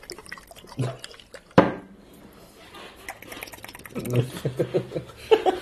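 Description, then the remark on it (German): A sharp, sudden burst at about 1.6 seconds as sauce is squirted from a bottle with a spray nozzle, followed by faint liquid sputters and voices talking. “Oh, da ist so ein Spritzaufsatz drauf.”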